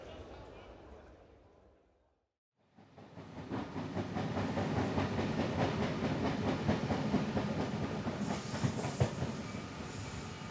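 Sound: train arriving on rails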